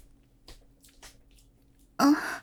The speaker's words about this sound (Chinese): 没事，我就练得太累了，所以在喘气了。对，刚刚做完体能呢。